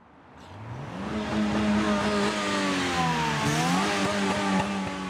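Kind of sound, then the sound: vehicle, car engine revving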